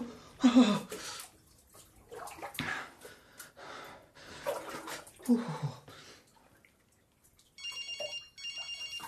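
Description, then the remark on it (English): Water splashes and rushes into a bathtub in uneven, noisy bursts with some breathy sounds, then a phone rings twice near the end. “Listen, I'm just getting into the bath, so can you make it quick?”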